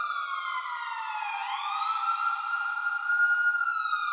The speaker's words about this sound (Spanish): A la llegada de la ambulancia, el que está atendiendo los primeros auxilios le informa al paramédico lo que le pasó al que tuvo el accidente.